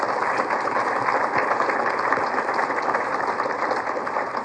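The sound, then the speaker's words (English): An audience applauds to congratulate digital television (DTV) pioneers, including Pennsylvania public television station WVIA. A dense, even wash of many hands clapping continues for the whole stretch, with no voices over it and no let-up in loudness. “It was an extremely busy year, and we should again give one more round of applause and congratulate all of these DTV pioneers and the ones that came before them.”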